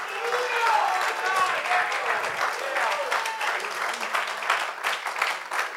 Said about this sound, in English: If you believe that, why don't you clap your hands and magnify the Lord for a moment.